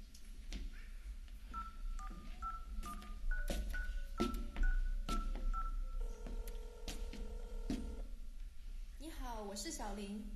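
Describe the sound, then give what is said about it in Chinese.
A phone keypad is dialed to place a call that goes unanswered, a quick run of short, clear touch-tone beeps in an uneven rhythm, ending in a couple of longer held tones before a voice briefly sounds at the end. “哎，这个小林到底去哪？打个电话都不接。”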